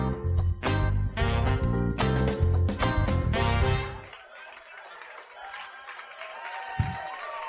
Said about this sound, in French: Non, mais j'applaudis parce que les gens applaudissent, mais.